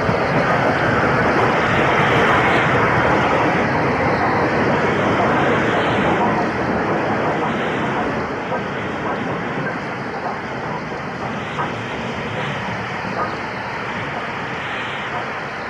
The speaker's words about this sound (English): It's 6:13 PM at Cooper Station on 24th November 1966. Class V2262 number 60836 arrives with the early evening passenger train from Broughty Ferry to Edinburgh.